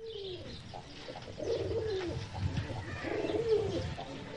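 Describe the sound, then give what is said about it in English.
A dove at a zoo coos twice in low, throaty phrases, each lasting under a second, close to the listener, over a steady outdoor background with faint chirping from other birds. “A nearby dove says, "Cool it, cool it."”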